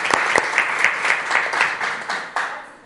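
Applause in a council chamber after an ordinance is approved unanimously, partly for visiting neighbours: a room full of people clapping steadily, dense overlapping claps with a few sharper individual ones standing out, moderately loud and sustained throughout.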